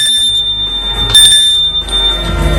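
A doorbell at the right-hand door on the third floor rings with a sustained, high-pitched metallic tone throughout, swelling briefly louder partway through over a low background rumble, with no voices.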